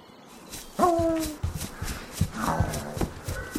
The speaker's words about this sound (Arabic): ذهب الولد مع الكلب إلى خلف المزرعة، فبدأ الكلب بالنباح، وفجأة توقف الكلب وأخذ يحفر الأرض بسرعة ولهفة شديدة.